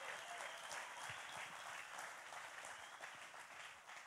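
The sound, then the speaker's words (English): An audience claps their hands in steady, dense applause, many overlapping claps blending into a continuous crackling wash that holds at an even, moderate level before easing slightly at the end. “Somebody clap your hands because I'm trying to help somebody right now.”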